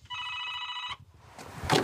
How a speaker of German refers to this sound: Mal gucken, hier ist die Klingel. So.